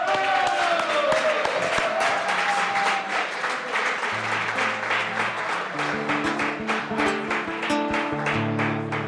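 Sustained audience applause for a singer fills the whole stretch, a dense, loud patter of many hands, with music playing underneath and low notes coming in partway through.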